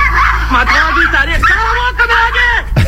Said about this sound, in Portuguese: Opa, mano, meus cachorros estão numa briga aqui, que Deus olhe. Tem um outro cachorro do vizinho que quer pegar ela. Não sei se dá pra entender o áudio, hein?